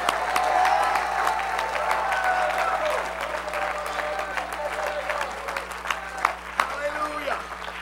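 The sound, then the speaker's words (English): An audience at a church service claps and shouts praise to God together, a dense wash of applause mixed with scattered cheering voices that stays loud throughout and tapers slightly near the end. “My God, let's clap our hands. Shout a little bit about it.”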